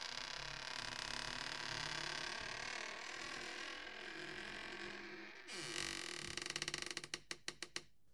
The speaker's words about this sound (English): So you see him just close, and then you hear this kind of old wooden door slowly creak until it shuts.